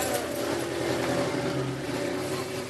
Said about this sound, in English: who watches as the team bus heads for the Cross Bronx Expressway and their so-called home field 6 miles away.